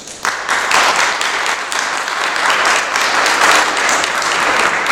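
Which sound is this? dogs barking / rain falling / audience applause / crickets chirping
audience applause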